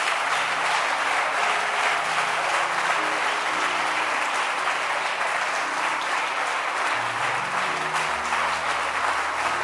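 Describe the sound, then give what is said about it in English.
An audience in a church claps loudly and continuously, a dense roar of many hands for the whole stretch, with no voices standing out above it. “Let your hand clap be loud.”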